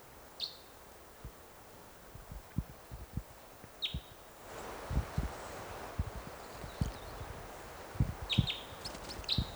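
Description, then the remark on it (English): A lone male red crossbill perched in a tree above a net site gives short, high chittering chirps in a few scattered bursts, with a quick cluster near the end, over a steady outdoor hiss and irregular low thuds and taps. “One bird perched in a tree above the net site now.”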